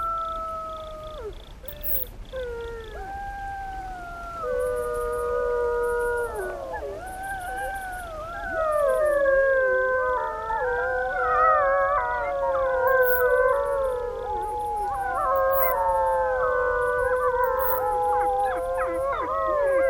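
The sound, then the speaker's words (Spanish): A wolf pack howls in chorus at night, the alpha wolf calling and the pack, including young wolves born the previous spring, answering: many overlapping voices rising and falling in long sliding tones, swelling louder and denser as the howls layer together throughout. “A punto de emanciparse, los jóvenes lobos nacidos la pasada primavera, las manadas se reúnen cada noche en torno a sus mayores. El lobo alfa convoca y la manada responde.”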